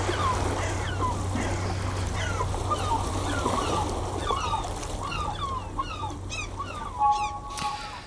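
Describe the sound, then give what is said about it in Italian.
Seagulls call over and over, many overlapping cries, above a steady low rumble like an idling boat engine and the lapping of waves. “si sentono i gabbiani, c'è lo sciabordio delle onde, senti il rumore dell'acqua.”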